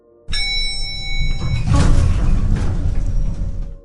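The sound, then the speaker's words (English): Elevator doors slide shut with a steady mechanical whir and low rumble over a faint electrical hum, swelling in the middle and lasting a few seconds before cutting off. “She smiled at me as the doors closed.”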